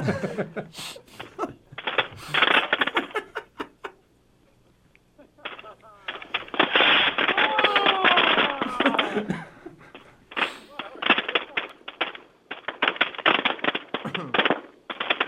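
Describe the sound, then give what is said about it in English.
Rapid strings of sharp firecracker pops set off to celebrate New Year crackle in dense, irregular bursts with brief pauses between, loud, sometimes overlapping into a continuous rattling barrage. “All right, now some firecrackers for you.”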